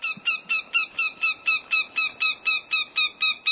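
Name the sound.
northern goshawk call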